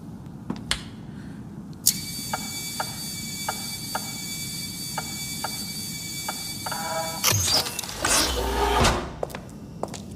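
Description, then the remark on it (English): A motorized door slides open: a steady mechanical whine with evenly spaced clicks runs for several seconds, then gives way to a louder rushing slide and a low thud at the end. “Just the door, right?”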